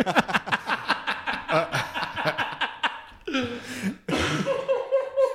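human body sound, coughing fit

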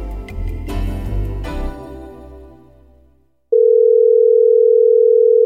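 signal or alarm, telephone call dial tone

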